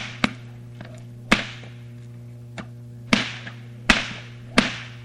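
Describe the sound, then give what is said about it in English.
Sharp cracks of two whips popped at the same time over a performer's head snap out in an irregular rhythm, about seven loud reports over a few seconds, some closely spaced, with a steady low hum running underneath and no talking. “So we pop two whips.”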